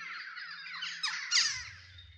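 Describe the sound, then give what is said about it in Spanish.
A dense flock of parakeets and macaws, just bought by someone, chatters and squawks continuously, with overlapping shrill calls and a louder harsh screech near the end, with a low hum beneath. “Pericos y guacamayas.”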